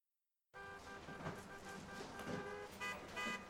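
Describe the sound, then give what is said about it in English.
Several car horns honk over one another in a steady blare amid the rumble of stalled traffic backed up from the Kane and Spring bridges into downtown at 3 o'clock in the afternoon, sustained tones layered with shorter toots, loud throughout. “By 3 o'clock in the afternoon, the traffic on both the Kane and Spring bridges is backed up into downtown.”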